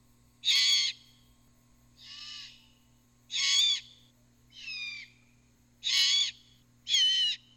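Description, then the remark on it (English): Fledgling birds perched near each other give loud, harsh food-begging screeches: six raspy, hissing bursts, each about half a second, spaced evenly and alternating between louder and slightly softer calls. No one speaks. “The adults will bring food to the now fledged young, who perch near each other and emit loud screeches, food begging screeches.”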